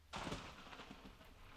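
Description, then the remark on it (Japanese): Steady rainfall begins abruptly and continues as a soft, even hiss with faint patters, fairly quiet and consistent throughout, with no voices. “しかし霧雨というわけでもない、確実に開けた空から雨は降り続いているのです。今私たちが感じている雨音のように。”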